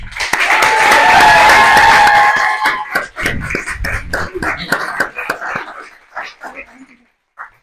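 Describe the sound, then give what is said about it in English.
A crowd at the STL Luminary event gives a final round of loud, dense applause for all the speakers, mixed with whoops and cheers, then the clapping thins into scattered individual claps and fades out. “And then we're going to give one final applause to all the speakers tonight, just how amazing they were.”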